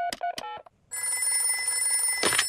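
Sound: telephone ringing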